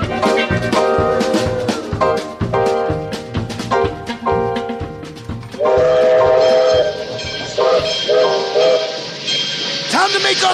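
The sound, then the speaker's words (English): A locomotive train rolls past loud, its wheels clattering in a steady rhythmic clack, then a long sustained horn blares over the rumble before it fades. “By what measure do we depart the locomotive”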